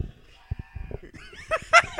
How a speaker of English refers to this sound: Oh my god, the goat screaming video. That was kind of funny, I'll admit it.